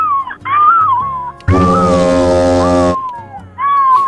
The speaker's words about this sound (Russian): Сейчас вы на песчаном пляже Карибского небесно-прозрачного моря. Слышите шум чаек, которые летают прямо над вами.